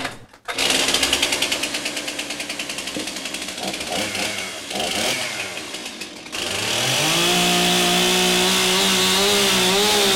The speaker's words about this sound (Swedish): Och sen tar brandmannen fram sin motorsåg och sågar av den nedre delen av dörren.